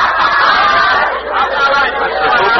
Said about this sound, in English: The crowd now, sensing the drama of the moment, has quieted down just a bit. They seem to be splitting into two sections.